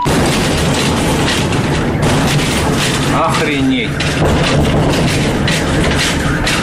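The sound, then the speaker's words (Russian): A deep, heavy rumble of booms from the explosions of a meteorite falling to Earth over the Chebarkul district of Chelyabinsk region on 15 February 2013 at 9:20 local time rolls on continuously and loudly, with a brief human voice breaking through partway in. “Падение сопровождалось взрывами.”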